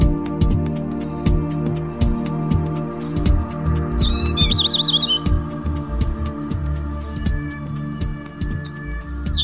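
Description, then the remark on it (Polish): A few short bird chirps and a quick trill come through, fairly faint, over a steady low hum and a regular ticking. No one speaks. “szczerze mówiąc, tematyka ptasia i te ptaszki, które możecie usłyszeć, do takiego, do zwrócenia się w kierunku tych dźwięków nakłonił mnie”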